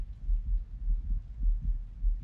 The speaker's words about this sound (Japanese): 人の鼓動を聞いていると落ち着くって ますね。